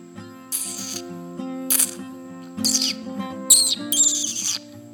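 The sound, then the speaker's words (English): A voice imitates monkey calls with a string of about five high, squeaky chirps and breathy bursts over a steady low hum, fairly loud. “The monkeys make”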